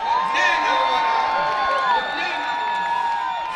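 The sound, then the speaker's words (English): A large crowd of supporters cheers and shouts continuously outside Hariri's residence in Lebanon as he speaks, many voices overlapping in loud, excited yells and whoops that hold steady for a few seconds without a break. “They were shouting and screaming.”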